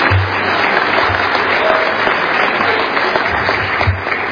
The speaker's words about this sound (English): Let's give the Lord another hand clap of praise this morning.